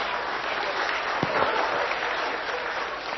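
A crowd claps steadily throughout, a dense, even wash of many hands at a moderate level with no voices or breaks, holding constant to the end.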